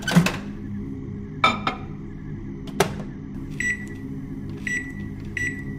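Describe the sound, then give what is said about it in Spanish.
A microwave oven heating food taken from the fridge hums steadily, with its plate turning, as several sharp clicks and clunks ring out, followed by three short, high-pitched beeps, with no voices. “abrió el refri, sacó algo que ya tenía preparado y lo metió al microondas”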